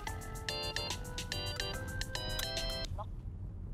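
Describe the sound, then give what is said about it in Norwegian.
A mobile phone rings with a bright, repeating electronic melody of short tonal bursts for a couple of seconds, then cuts off, heard over a steady low background rumble. “Åh faen, det kua. Det må jeg bare ta.”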